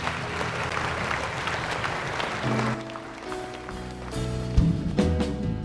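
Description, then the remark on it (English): An audience at a worship service claps together in a dense, steady wash of applause after a closing prayer. About halfway through, sustained musical tones rise beneath the clapping as it continues. “Would you seal that to your heart? Clap.”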